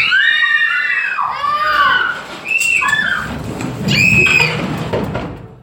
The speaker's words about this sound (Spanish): Los chicos, cada vez más asustados, se abrazaban. Algunos lloraban. Y en medio de los gritos, corrieron a refugiarse en un sótano de la vivienda.